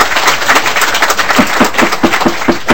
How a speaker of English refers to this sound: I'd also like to note, I know there's going to be a lot of strong emotions one way or the other, and if we could hold off on clapping, cheering, booing, all that stuff, it's going to make the committee process go much faster.